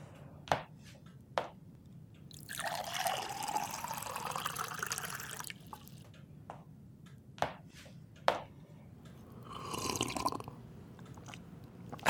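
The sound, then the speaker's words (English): A glass is set down with sharp clinks, then water pours into it with a rising pitch as it fills. More clinks follow, then a short splashy burst, as if someone drinks, with no talking. “Planting a thought in my head just to get you a glass of water seems lazy”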